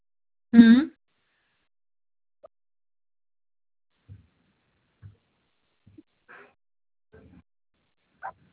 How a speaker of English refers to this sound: My kids, they are playing. As you can hear the sound of our dog, they are playing outside.